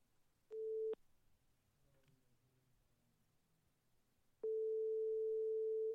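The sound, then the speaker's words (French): A telephone ringback tone on a call to a clown: a steady mid-pitched beep cut off after a fraction of a second, a few seconds of quiet line hiss, then a second long ring that continues to the end. “Voici l'enregistrement de notre court échange téléphonique.”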